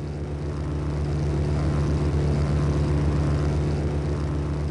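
A propeller airplane engine drones steadily and loudly throughout, a constant low hum with a rough, buzzing texture and no voices.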